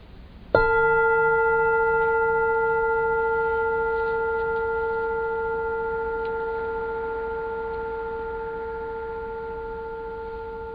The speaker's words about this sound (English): So that's why I set up the bell here. And I thought we'd just maybe for 5 minutes I'll lead a little meditation. Everybody looks like they're sitting comfortably. Just gently closing your eyes. Enjoy the sound of the bell.